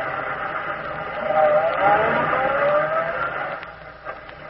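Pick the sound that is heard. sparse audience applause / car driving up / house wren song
car driving up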